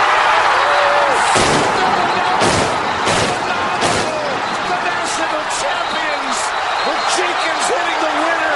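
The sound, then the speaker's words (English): Confetti cannons fire at the end of the men's NCAA tournament final: several sharp, gunshot-like bangs in quick succession, then a few fainter pops, all over the constant roar of a loud cheering crowd with voices shouting. “So, I love the gunshots of the confetti going off.”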